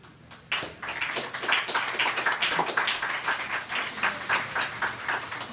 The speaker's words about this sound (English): See, we're all clapping for you.